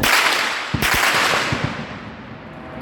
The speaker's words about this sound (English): As they walk, gunshots can be heard.